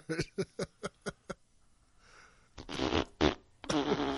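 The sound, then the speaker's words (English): A playful fart sound effect played by a smart speaker: a quick series of sputtering bursts, a brief hiss, then a long, loud, wet, flapping blast that trails off. “Alexa, fart.”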